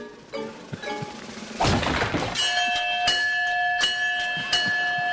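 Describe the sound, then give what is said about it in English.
At a fairground strength test, a few dull thuds, then a heavy hammer strike sends something rattling upward and a bell rings out, clanging again several more times with a bright, sustained metallic tone. “Give me that hammer.”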